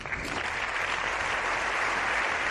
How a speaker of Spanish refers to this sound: El del aplauso, largo aplauso, que sí han secundado esta vez los ministros de Unidas Podemos.